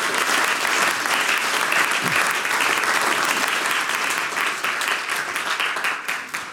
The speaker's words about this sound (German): Ich denke, das ist eine Partie, die hat sich einen sehr, sehr großen Applaus verdient.